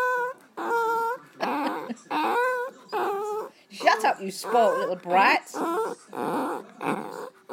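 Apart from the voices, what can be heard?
dog barking and growling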